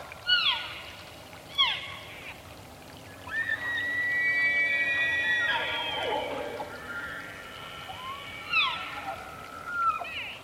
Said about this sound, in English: It's still dark, but we can hear elk on all three sides of us slowly getting closer.